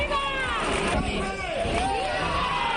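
A large crowd in the town hall square applauds and shouts in support of the King and Queen of Spain, calling "¡Viva!". Many overlapping voices rise and fall in a loud, continuous din with no single speaker standing out.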